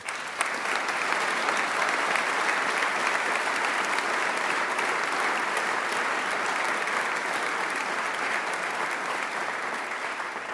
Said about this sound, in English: And for establishing and prudently increasing the Rainy Day Fund, both Governor Walker and everyone here in this body deserves a round of applause.